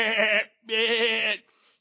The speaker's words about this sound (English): And then you have the livestock that is probably with them as well. Sheep and goats.